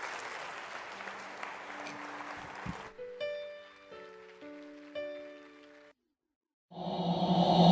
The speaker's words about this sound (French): J'aimerais que vous applaudissiez la possibilité de Dieu, le miraculeux de Dieu.